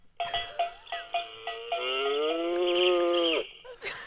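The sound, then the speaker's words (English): An old toy alarm clock shaped like a cow plays a quick run of about six clanking, bell-like dings, then a long, loud, synthetic cow moo that holds steady before cutting off abruptly. No one speaks. “Well, my old alarm we've also got in the system, which used to be in the shape of a cow.”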